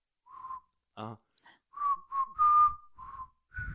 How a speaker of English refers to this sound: Let me whistle. That is so out of tune.